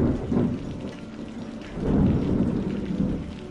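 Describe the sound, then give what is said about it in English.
Steady rain hisses throughout while low thunder rumbles and swells, building to a heavier roll about halfway through. No voices, just a full, enveloping storm. “Unfortunately, the storm returned while Ethel's parents were away, and it was too dangerous for them to make the return journey.”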